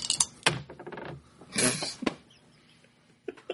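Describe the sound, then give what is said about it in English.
Dice being rerolled in a game clatter and tumble across a hard surface in a few quick bursts of sharp clicks, with a louder rattling roll in the middle and a couple of faint taps at the end. “You can spend a point of heroism to reroll.”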